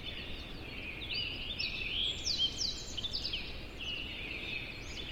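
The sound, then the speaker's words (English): A dawn chorus of many birds in Yosemite National Park sings and chirps at once in a dense, overlapping chorus of high trills and whistles, over a soft steady background hiss of forest. Recorded in surround sound. “Well, this is one of Dan's recordings of a dawn chorus of birds in Yosemite National Park.”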